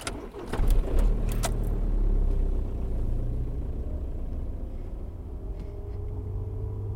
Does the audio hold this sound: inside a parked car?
yes